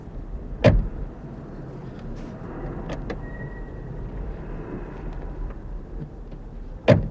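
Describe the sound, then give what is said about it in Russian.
Two solid car door thuds, one near the start and one at the end, with a low, steady vehicle rumble and faint shuffling in between as someone gets in. No one speaks. “Садитесь в машину.”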